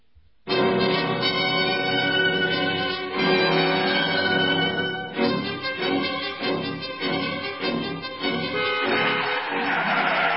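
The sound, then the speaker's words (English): A car brakes hard for a person standing in front of it in the road, with a long, loud, high-pitched tire screech that wavers and pulses for several seconds, then breaks into rougher noise at the end. No one speaks. “What do you mean by standing in front of my car? You might have been killed.”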